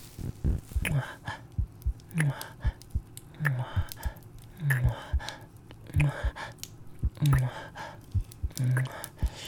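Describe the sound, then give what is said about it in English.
A muffled, fast heartbeat thumps in a steady repeating rhythm, with soft breathy whispers and faint mouth sounds layered over it. “To your fast beating heart, I hope you can feel my love.”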